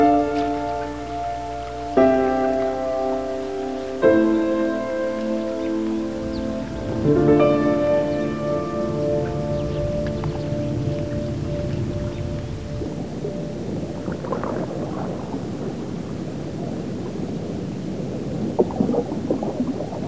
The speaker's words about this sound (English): Later at dusk, Colin rows the canoe along the river.